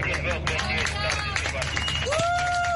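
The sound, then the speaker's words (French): A crowd applauds amid a busy hubbub of voices as migrants disembark from a rescue ship chartered by SOS Méditerranée and Médecins sans frontières at the port of Valencia. The clapping is dense and continuous, with a sustained whistling tone rising over the noise near the end. “Des applaudissements ont fusé alors que des migrants débarquaient du navire de secours affrété par SOS Méditerranée et Médecins sans frontières.”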